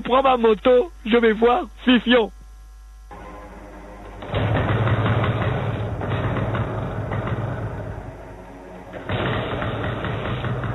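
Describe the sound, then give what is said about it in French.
A voice speaks briefly, then the speaker's motorcycle engine starts up and runs with a loud, steady rumble for several seconds, easing slightly before surging again near the end. “Je prends ma moto, je vais voir Fifion.”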